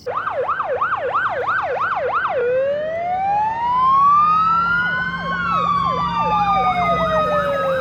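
A loud fire truck siren in the street at night, starting with a rapid yelping whoop, sliding into a long rising and falling wail, then returning to the fast yelp over a low traffic rumble.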